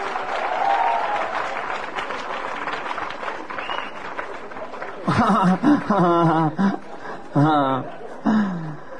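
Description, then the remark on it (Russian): A crowd applauds steadily for about five seconds, a dense wash of clapping with a few chuckles, then a man begins speaking as the applause fades away. “И сейчас под ваши аплодисменты я познакомлю вас с программой передач на «Быдло ТВ».”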